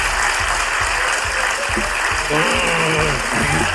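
Sustained crowd applause fills the whole stretch, a dense, steady clatter of many hands clapping, with faint voices murmuring and calling out beneath it.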